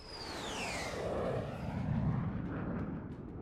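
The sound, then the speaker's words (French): An Avro CF-105 Arrow jet fighter, able to fly twice the speed of sound, roars past, its high engine whine sweeping downward as a heavy, rumbling blast fills the air and slowly fades. No voices. “Le CF-105 Arrow d'Avro, l'avion de chasse le plus performant au monde. Il pouvait voler deux fois plus vite que la vitesse du son, ce qui en fait à l'époque l'avion de combat le plus rapide jamais conçu.”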